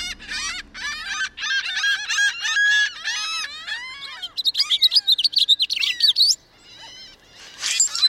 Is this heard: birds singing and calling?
yes